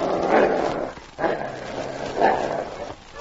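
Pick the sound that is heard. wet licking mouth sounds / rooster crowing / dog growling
dog growling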